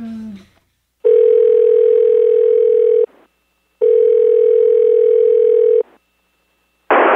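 A loud telephone dial tone after a phone is hung up sounds in two steady, unbroken stretches of about two seconds each, separated by a short silence, then a sudden burst of noise cuts in at the end.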